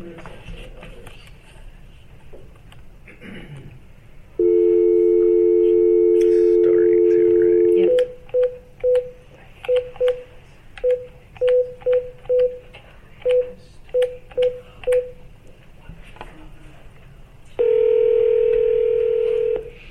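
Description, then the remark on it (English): A steady telephone dial tone sounds, then a quick run of about a dozen short beeping dialing tones in uneven groups, followed by another steady tone, with faint background murmur underneath, as a doctor is called while the first caller is put on hold. “we're just going to put you on hold for a minute while we get the other doctor on the phone.”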